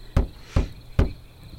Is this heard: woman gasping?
no